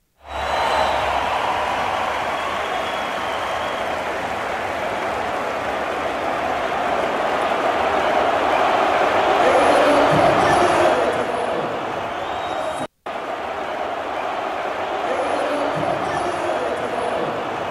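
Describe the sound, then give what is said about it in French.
A huge arena crowd roars continuously, thousands of voices screaming and cheering Cole Caulfield's 50th goal in a dense, sustained wall of noise that swells slightly midway, with a brief cut before the din resumes. “Ça crie tellement.”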